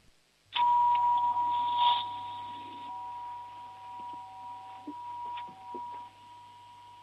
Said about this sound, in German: Und jetzt hätte ich gerne noch deine Türklingel gehört.